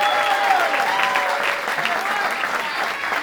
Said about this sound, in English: How about a little hand clap?